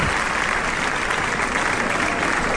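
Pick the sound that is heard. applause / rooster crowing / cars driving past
applause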